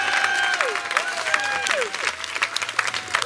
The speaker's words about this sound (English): I would like you to applaud now. And it's big.